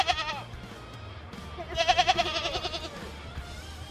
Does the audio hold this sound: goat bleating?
yes